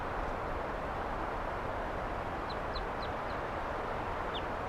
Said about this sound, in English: Flying over. Wild bird. And the birds, some of the wild ones came right here and wanted to perch on the microphone.